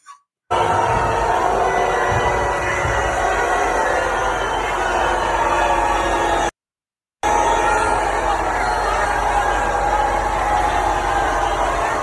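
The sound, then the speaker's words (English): A large crowd of Texans boos Ted Cruz at the Houston Astros World Series championship parade in a steady, loud, continuous roar with a low rumble underneath, broken by a brief cut of silence partway through before the jeering resumes. “So I thought we would also enjoy watching Ted Cruz getting booed by a bunch of Texans at the Houston Astros World Series championship parade.”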